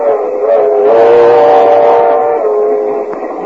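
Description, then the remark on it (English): A moving train approaching Kansas City rumbles steadily while a sustained, multi-toned whistle blows over it for about three seconds, loud throughout and then easing slightly; no voices. “So we now find Mr. and Mrs. George Burns in a compartment on a train approaching Kansas City.”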